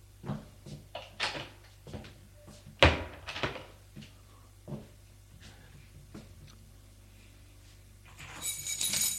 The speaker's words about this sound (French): La porte de l'appartement s'ouvre et apparaît Gilles.